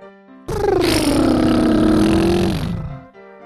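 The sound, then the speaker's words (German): A voice imitates a car engine with a buzzing lip trill while exhaling during a breathing exercise, kneeling on a bed; one sustained breath of about two and a half seconds with a gently gliding pitch, fairly loud, with no talking. “Und jetzt beim Ausatmen lässt du deine Lippen vibrieren, als würdest du das Brummgeräusch eines Autos nachmachen.”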